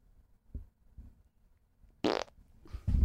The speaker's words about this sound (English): You want to end this one with a funny fart? Yeah.